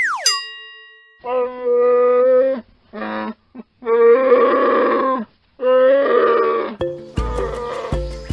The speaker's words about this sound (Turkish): Bildiniz mi? Bu hayvanın adı ayı. Ayılar Antarktika, Avustralya ve Orta Afrika dışında her yerde yaşıyor. Ortalama ömür süreleri 50 yıl. Boyları 1 ila 3 metre arasında değişiyor. Boz ayı, kara ayı, dudaklı ayı ve kutup ayısı gibi türleri var.